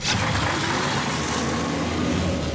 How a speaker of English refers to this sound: Wow! I can't believe this giant truck is driving itself!